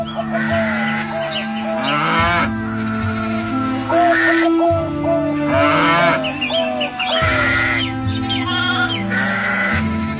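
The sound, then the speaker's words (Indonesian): A flock of sheep and goats in a backyard bleats steadily and loudly, many overlapping calls with wavering tones rising and falling, plus a few deep moo-like lows from other animals. “Wah, sebentar lagi pasti halaman belakang ini penuh dengan kambing domba.”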